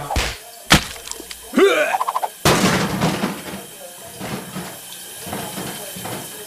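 Shower water splashes and sprays steadily, with a few sharp knocks early on and brief high vocal sounds from a person mixed in.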